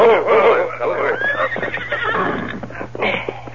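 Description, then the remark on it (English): Horses whinny loudly and repeatedly, with rising and falling neighs over a steady low hum and faint shuffling that may be hooves, as three riders rein up in front of a ranch house. “Soon the three men reined up in front of the Derrick ranch house.”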